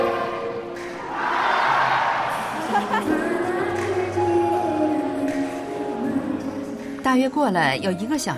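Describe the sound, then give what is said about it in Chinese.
A large, excited crowd cheers and shouts together outdoors at a music festival during sudden heavy rain, a dense roar of overlapping voices that swells early on and stays loud throughout, with individual yells rising above the din near the end. “可是，在音乐节现场，观众反而因为下雨更加欢乐和兴奋。”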